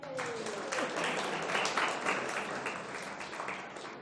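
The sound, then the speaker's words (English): A crowd claps steadily for about four seconds for a young child volunteer, a dense, even patter of many hands at moderate loudness, with a faint murmur of voices mixed in. “Let's give her a clap.”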